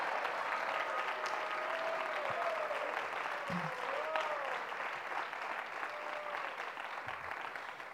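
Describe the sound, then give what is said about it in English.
A room full of people at a gathering applauds steadily for several seconds in thanks to Sachinanda Swami, a dense, continuous patter of clapping with a few faint voices and whistle-like tones rising above it. “Please, an applause for him.”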